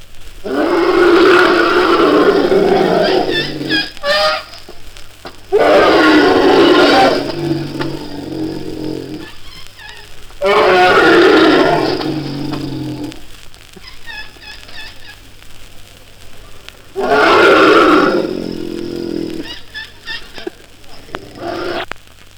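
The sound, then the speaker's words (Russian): Huge elephants in India raising their trunks to the sky and trumpeting loudly: four long, blaring calls at regular intervals, with quieter rumbling, honking cries between them. “ходят в дальней Индии огромные слоны, вздымают к небу хоботы, на целый мир трубят.”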